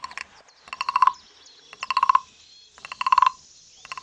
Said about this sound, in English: It's shaped like a frog. It's made of wood. It's got like a little stick that's like a beater, but it's got ridges and you're on the back of the frog. And that's it. So that's that percussion.